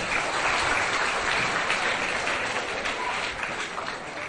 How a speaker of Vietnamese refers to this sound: Các cháu gái ở đây có đồng ý với các bạn trai của mình không? Đồng ý không? Đồng ý thì dành cho tràng pháo tay.